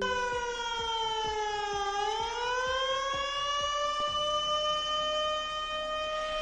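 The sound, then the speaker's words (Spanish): A flood warning siren in Sant Llorenç des Cardassar, Mallorca, sounding at night for the risk of flooding, wails steadily, its pitch dipping slightly then rising and holding in a long sustained tone, with faint intermittent clicks underneath and no voices. “Preocupa la previsión del tiempo tras una noche en la que en Sant Llorenç des Cardassar ha sonado la alarma por riesgo de inundaciones y que esperemos no vuelva a sonar”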